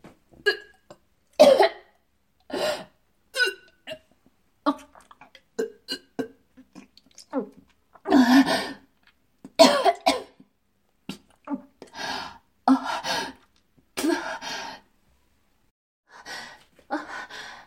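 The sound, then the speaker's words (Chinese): A pregnant woman with morning sickness coughs and retches repeatedly, with harsh gagging heaves broken by sharp gasping breaths, coming in irregular bursts over several seconds. “妈妈没事，只是有点害喜，没关系。”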